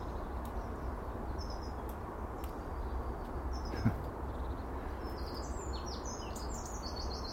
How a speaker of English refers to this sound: Such a wonderful, wonderful morning. We're standing here. And peace and calm and a hot muggy tea, sunshine on my face, birds flitting and singing.